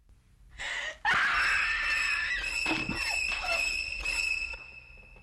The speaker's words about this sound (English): Screaming, she reaches for the knife in her mother's hand, pulls it out, then catches the body as it slumps.